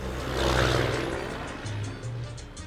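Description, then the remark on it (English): Steady rumbling interior noise of an old school bus in motion in Western Panama, heading toward a volcano and arriving in the small town of Boquete, with a low engine drone and a broad road roar that swells slightly, then eases, with no talking. “I'm riding in an old school bus towards a volcano covered in clouds way off in the distance.”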